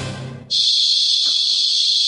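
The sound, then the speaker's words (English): Giant cicadas in summer break into a loud, steady, high-pitched buzz that starts abruptly after a brief lower sound and holds unbroken, droning without pause to the end. “Or it could be the sound of giant cicadas flying right through the holes in your screens.”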